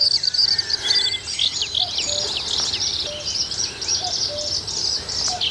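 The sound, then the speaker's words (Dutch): A busy outdoor chorus of birdsong in the Tetjehorn nature area, with many high chirps and trills overlapping steadily and continuously, including a bird song that begins with a run of repeated 'ti' notes before continuing, alongside a soft background hum of other birds and insects. “Je begint altijd met ti, ti, ti, ti, ti, ti, ti, ti, ti, ti. En dan gaat hij verder.”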